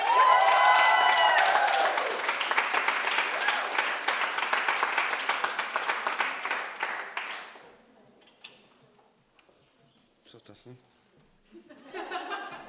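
A crowd applauds loudly for several seconds for a performer storming onto the stage with his second text, with cheers and whoops early on, then the clapping cuts off into near silence broken by a few scattered claps and faint murmurs.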